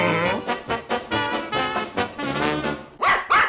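A pug vocalizes in a run of whiny, tonal yelps and grumbles, then finishes with two sharp, loud barks in quick succession. No one speaks.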